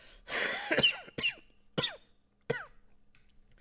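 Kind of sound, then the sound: human body sound, coughing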